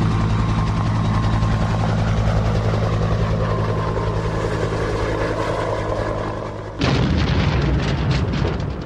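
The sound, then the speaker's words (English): A rescue helicopter that looks like a Coast Guard type drones loudly and steadily overhead, its engine hum and rotor throb filling the air, then the sound abruptly shifts to a rougher, rumbling roar near the end. No one speaks. “A rescue helicopter is crap.”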